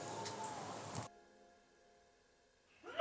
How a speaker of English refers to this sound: Bless you.